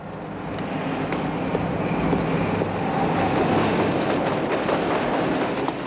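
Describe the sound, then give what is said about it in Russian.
A metro train rolls across an iron viaduct over the Seine, with the metro on the upper deck and a bridge for cars and pedestrians below: a steady, loud rumbling roar broken by scattered sharp metallic clicks and clanks, with no voices throughout. “Итак, виадук через Сену. Сверху метромост, снизу мост для машин и пешеходов.”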